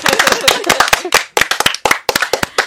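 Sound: audience clapping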